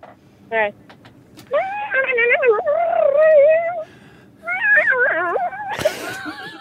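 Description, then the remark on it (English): A voice mimics a shredding electric guitar, wailing and bending through squealing pitch slides in two long, fairly loud bursts after a few short yelps, ending with a breathy noise. “How many years have you been a mouth shredder for”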